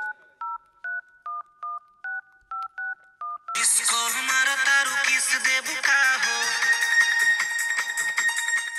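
telephone being dialed

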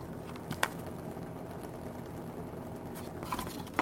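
water boiling

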